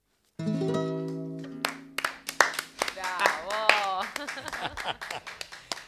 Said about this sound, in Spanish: Qué hermoso ver ahí a la sacerdotisa aplaudiéndolo después de tantas.